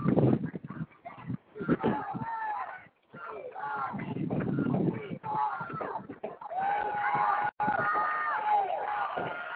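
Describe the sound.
A stadium crowd cheers at an American football game involving the Mustangs, in a loud, steady roar that swells and dips, with a voice talking over the noise and brief lulls between surges.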